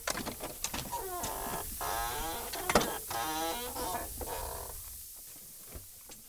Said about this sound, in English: He starts jacking the car up.